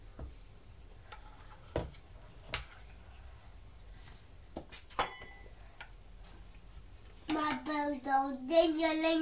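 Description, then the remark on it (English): A teaspoon is banged against a table in a few sharp, irregular taps, some in quick clusters, and falls to the floor, before a child's voice starts up near the end. “You've been banging it on the table and it's fallen on the floor, and it did.”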